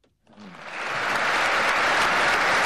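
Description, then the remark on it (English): An audience of big investors breaks into applause as Vladimir Putin speaks, swelling quickly from near silence into loud, dense, steady clapping that carries on without a break. No voices can be heard. “Applause is guaranteed whenever Vladimir Putin speaks to big investors.”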